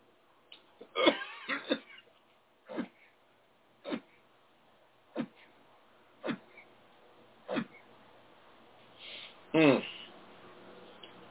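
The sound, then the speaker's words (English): A moderately loud series of about eight sharp coughs, spaced roughly a second apart in a steady rhythm, ending with a heavier, throatier cough. “Sorry, I just can't seem to get rid of this cough today.”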